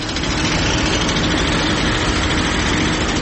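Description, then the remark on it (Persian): Chinese heavy machinery engines roar continuously while tearing into the mountains of Badakhshan, Afghanistan, for gold mining. A dense, steady low rumble with a gritty mechanical texture and no pauses or voices. “در دامانه های کوهستانی بدخشان، جایی که سالها صدای تشته های فلزی و دسته های تینه بسته در پی دانه های طلا با رودخانه می جوشید، امروز غرشی بیوقعه ماشینالاتی چینی و افرادی وابسته به طالبان دل کوه ها را می درد.”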